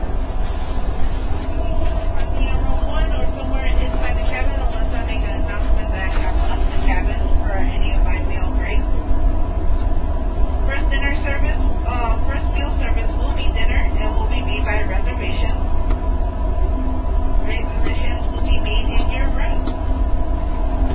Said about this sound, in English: They're making some kind of announcement, but I don't know how to hear it.